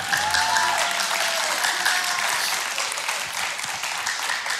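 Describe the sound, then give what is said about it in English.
An audience claps steadily for several seconds, a dense, even wash of many hands with a few faint whoops or voices rising briefly near the start. “Can y'all give him a quick round of applause?”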